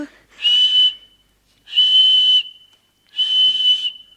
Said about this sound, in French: Tenez, quand vous aurez besoin de moi, Quand vous voudrez que je vienne, vous n'aurez qu'à siffler avec ceci.